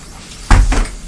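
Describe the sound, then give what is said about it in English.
A door is shut with a solid thud followed by a quick rattling second knock as it settles into the frame, then quiet room tone. “Yes, I'm shutting the door.”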